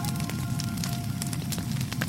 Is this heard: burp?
no